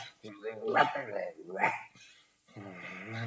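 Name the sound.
dog barking excitedly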